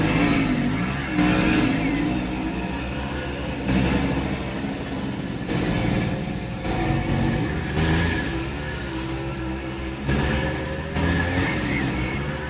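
A small moped engine drones steadily past, its pitch rising and falling in repeated revving surges over several seconds, fairly loud, with no voices.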